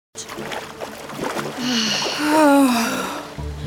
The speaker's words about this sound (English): I like water noises.